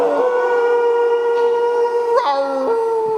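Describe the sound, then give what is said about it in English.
Several people howl together in a long, sustained wolf-like cry, starting on an R sound and ending on an OO, holding a steady pitch before sliding and dipping near the end, loud. “So that's howling.”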